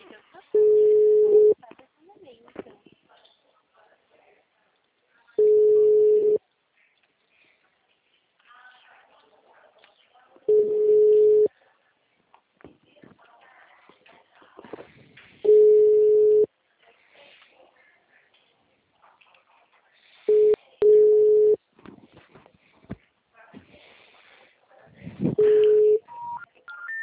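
A telephone busy signal: a steady mid-pitched electronic tone sounding in about one-second bursts, repeating roughly every five seconds, over a faint, murmuring background.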